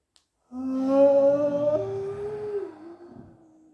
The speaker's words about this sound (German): Atmet einmal tief ein, tief in den Bauch und aus mit einem Geräusch eurer Wahl. Das machen wir noch zweimal. Atmet ein.